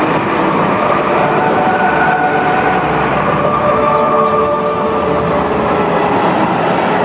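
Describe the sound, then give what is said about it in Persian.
A loud, steady mechanical roar of heavy road-building machinery working in a village runs unbroken throughout, with droning engine tones and rattling grit. No voices are heard. “اینچنین با قریب ماشین های راهسازی گره از کار فروبسته گشوده شد و اسباب انجام کاری بزرگ فراهم بود.”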